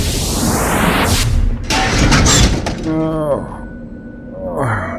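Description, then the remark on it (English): A rising whoosh ends in a loud, heavy crash as a man drops out of nowhere onto a car, with glass shattering and debris rattling for about a second, followed by a strained human voice. “Guy dropping out of nowhere, right onto our car?”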